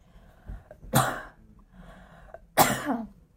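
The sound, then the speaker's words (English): Two sharp sneezes about a second and a half apart, each a sudden loud burst of noise after a quieter intake of breath, with no talking. “Bless you.”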